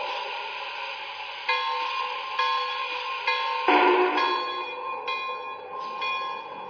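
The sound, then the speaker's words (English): Train number 18 pulls into a station on track one, its bell clanging steadily every second or so over a sustained mechanical drone, with a brief burst of hissing air partway through. No one speaks. “track one. Train number 18”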